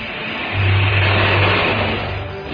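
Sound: engine revving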